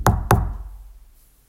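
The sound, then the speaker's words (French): Two loud, heavy knocks on a door in quick succession, booming, followed by a fading resonance and then quiet. No voices. “Alors que tout le monde acquiesce, ils sont interrompus par de grands coups frappés à la porte.”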